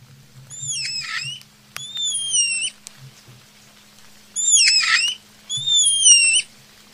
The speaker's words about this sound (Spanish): Bueno, pues es el mono araña, claramente. Lo llaman así por su gran habilidad para saltar de un árbol a otro, ayudándose de su larga cola.